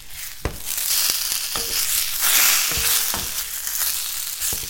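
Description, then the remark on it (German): Fish sizzling steadily in hot fat over a fire pit as a woman fries it for the evening meal, a dense crackling hiss with occasional sharper pops, fairly loud, no voices. “Man hörte nur noch das Brutzeln von der Feuerstelle. Eine der Frauen briet Fisch für das Abendessen.”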